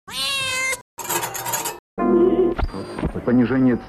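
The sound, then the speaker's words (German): A world-band radio being tuned in the second half: a steady high whistle over shifting, warbling tones and static bursts, loud, following a cat's meow and a brief clatter. “Katze, Klirren, Weltempfänger.”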